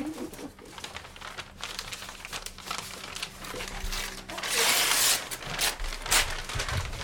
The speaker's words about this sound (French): En fin de compte, on découpe pas le papier au ciseau, parce que quand on le déchire, il se colle mieux, ça adhère mieux quand c'est déchiré que quand c'est coupé.